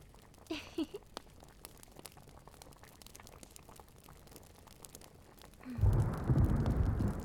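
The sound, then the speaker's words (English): Steady rain patters outside a home with scattered sharp drips, and after several seconds a heavier, louder rushing rumble swells in, like a downpour intensifying or thunder rolling over the rain. “While it's raining outside, with a cup of hot tea.”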